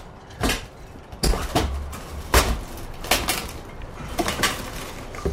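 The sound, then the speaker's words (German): A wooden crate from a shipping container is pried and pulled open during a customs inspection: a string of sharp knocks, scrapes and hollow thumps at an irregular pace, with a few heavier low bumps, and no voices. “Würden Sie bitte mal diese Kiste öffnen?”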